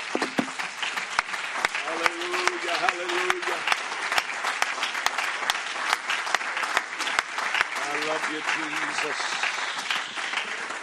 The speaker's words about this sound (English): Why don't you give the Lord another hand clap of appreciation before you're seated tonight.